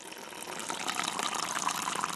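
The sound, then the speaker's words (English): Rushing water from heavy snowmelt runoff in the Sierra, a steady, dense gush with a hissing, splashing texture that holds fairly constant throughout, with no voices. “Snow will become rain. And that dripping you just heard will sound more like this.”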